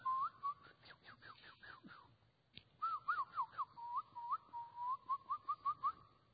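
Bird song in the morning: quick runs of clear, whistled chirps in two bursts separated by a short pause, fairly loud, with no talking.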